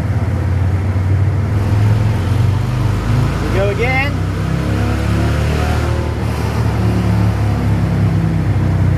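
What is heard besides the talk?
motorcycle engine revving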